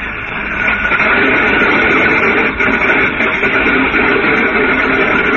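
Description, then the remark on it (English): A small airplane engine is started again and quickly builds to a loud, steady, rough roar that holds without a break, with no voices over it. “Too bad you have to turn off the engine. No trouble to get it going again.”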